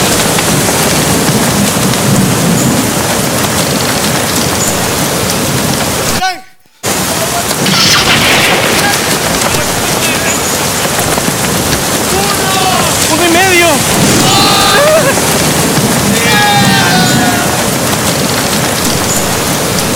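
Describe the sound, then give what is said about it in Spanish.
A loud, continuous roar of a storm at sea, with heavy rain and crashing waves filling the whole scene, briefly cut to silence once partway through before surging back. “Estoy seguro que si le hago caso a Dios, o mejor dicho, si les hace el divino, la tormenta va a parar.”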